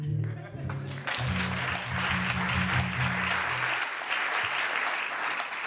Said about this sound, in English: Ladies and gentlemen, once again, it's Michael Feldman. It is? Where? Oh, that usually draws applause.